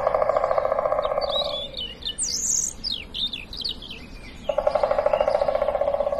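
Several birds sing in the morning in bright, quick chirps and warbling phrases, clear, while a steady buzzing insect drone hums underneath at the start and returns near the end.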